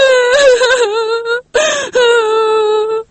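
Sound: crying with joy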